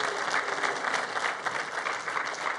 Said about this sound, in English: Hey, if this is your first time here visiting us here at Seaport, or you're visiting us online, we just want to welcome you. And we do that around here by just clapping for you. We just want to honor you by clapping for you.